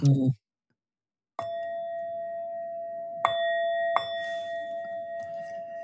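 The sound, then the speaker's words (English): A Tibetan bell is struck three times, its clear, steady tone ringing on and overlapping with each new strike, to begin a guided practice. A brief voice comes just before the first strike. “Use my Tibetan bell. I hope that the sound will work.”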